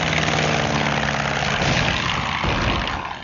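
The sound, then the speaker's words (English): A black propeller plane with swept-back wings, flown by the top flyer Lensch, roars overhead, a loud, steady engine drone with a throbbing low hum that sweeps past and begins to fade in the final moment. “Black plane, wings swept back.”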